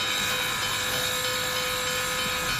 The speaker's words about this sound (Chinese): 汽笛响起，一股蒸汽冒过，火车徐徐驶离。